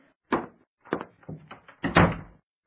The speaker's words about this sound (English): Oh, that must be him at the back door.